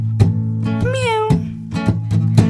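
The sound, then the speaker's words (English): A single drawn-out cat meow rises and falls over a steady musical backing with regular percussive beats, the meow sitting clearly in front of the rhythm. “You guys know what sound a cat makes?”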